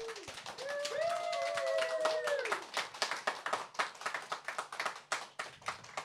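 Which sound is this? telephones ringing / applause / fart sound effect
applause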